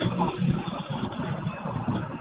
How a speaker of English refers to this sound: Oh, there's a lot of background noise. I'm sorry. There's a lot of background. I'm on a bus. Yeah, I'm on a bus.